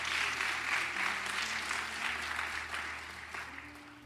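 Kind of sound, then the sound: crowd, audience clapping hands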